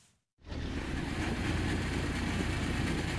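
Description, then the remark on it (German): A cargo motor tricycle (trimotor) engine starts after a brief moment of silence and keeps running in a steady, loud, rough drone with a low rumble, no one speaking over it, as it sets off through mud and puddles into the dense rainforest of Madre de Dios in the Peruvian Amazon. “Im Trimotor, einem Lastendreirad, geht es los.”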